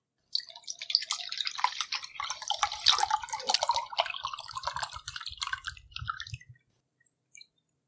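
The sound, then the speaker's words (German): A white, coconut-flavoured liquid glugs and splashes steadily into a glass for about six seconds, a bubbly, gurgling pour that stops abruptly, followed by a faint single clink. “Und mit dem richtigen Glas passt doch alles rein.”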